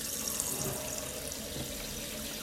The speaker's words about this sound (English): Right, first I need to clean the sink out. Just a little bit of food left in there. I'll get the hot water in.